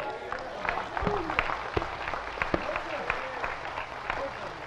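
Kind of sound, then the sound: crowd, audience applauding and clapping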